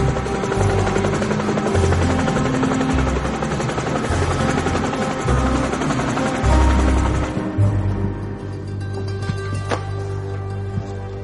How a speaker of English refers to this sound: No, sir. The helicopter.